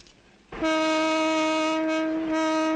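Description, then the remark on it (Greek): A loud, sustained train whistle blasts suddenly after a moment of low background noise, holding a steady harmonic tone for over two seconds with no voices. “Σφύριξε το τρένο.”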